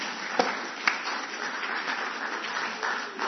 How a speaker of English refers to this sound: Well done. Give them a little clap for me.